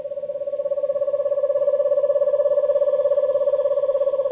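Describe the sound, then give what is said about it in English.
An eastern screech owl gives a long, steady trill on one mellow pitch at nightfall, a rapid even stream of tremolo notes that holds level throughout with no voices; recording from the Macaulay Library at the Cornell Lab of Ornithology. “As night falls and the subtropical birds go quiet, an eastern screech owl trills.”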